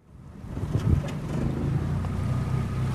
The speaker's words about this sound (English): Last Saturday morning, I boarded a small boat and traveled along the canals of Venice, a city built on more than 100 small islands connected by 400 bridges.